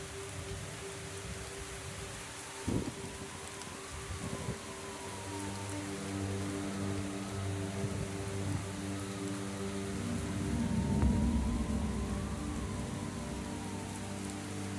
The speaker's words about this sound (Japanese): 雨だ。